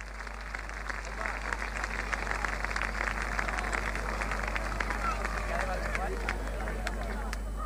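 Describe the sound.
An audience applauds a band, a dense, steady wash of many hands clapping that holds at a fairly even loudness for the whole stretch, with faint crowd voices mixed in.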